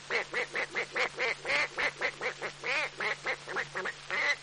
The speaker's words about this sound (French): Le canard.